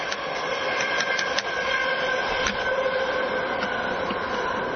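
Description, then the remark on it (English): A train rumbles steadily, a dense continuous roar with faint metallic clicks and squeals running through it, loud and unbroken with no voices. “And the train made me forget my questions, but you've given me a lot.”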